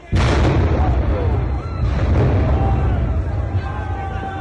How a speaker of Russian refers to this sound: В ответ те начали взрывать светошумовые гранаты.